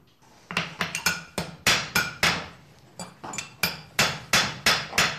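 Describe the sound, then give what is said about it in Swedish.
Sharp metallic hammer blows ring out in uneven bursts, about fifteen strikes with short pauses between groups, each bright clang decaying quickly, as a farrier hammers a horseshoe by hand without machines, straightening it so it fits back on the hoof. “Kolla kolla var den är sned och vad man behöver rikta, vad det behöver göra så att den passar tillbaka på hoven.”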